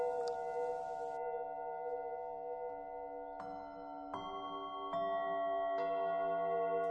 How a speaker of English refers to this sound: As we do that, we can allow the sounds of the gong bath to wash over us.